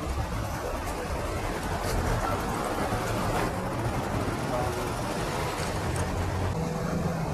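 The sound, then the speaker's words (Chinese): Busy, congested street noise in a traffic jam on a narrow road: a steady rumble of idling and slowly moving vehicle engines mixed with general outdoor bustle, continuous throughout without any clear pauses. “现在有点堵车，因为这条路太小了，我根本都过不去嘛，让这辆车先过吧。”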